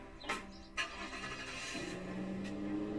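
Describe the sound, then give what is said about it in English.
A couple of sharp clicks, then a car engine turns over and revs up, its hum rising steadily in pitch as the car pulls away in Cape Vedra. Moderately loud, with no talking. “Hop in my car. Let's go.”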